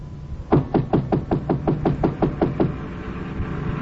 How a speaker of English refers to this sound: I got to Chinook's, and it was closed. I knocked on the door.